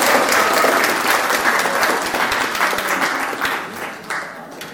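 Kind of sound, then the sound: crowd, audience applauding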